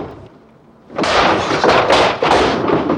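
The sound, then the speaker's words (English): After a second of near quiet, a policeman and another man force a door open with a sudden heavy thud, followed by loud, rough banging and clattering that carries on for a couple of seconds. “The policeman and Bob get the door open.”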